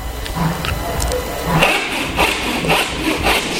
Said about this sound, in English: Then we sawed together the giant mushrooms that we found in order to make a raft to sail on the central sea in Earth's interior.